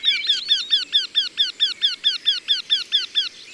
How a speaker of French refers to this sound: Ça, c'est un torcol.